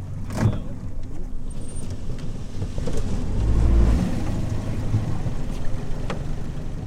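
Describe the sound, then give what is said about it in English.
A small motorboat's engine drones steadily on a short ride across a little lake toward a tiny island, steered by a fisheries biologist, with rumbling low hum, wind buffeting the microphone, and occasional bumps and splashes; no one speaks. “After what's just a 3-minute boat ride, we spot our destination that looks like a mini island.”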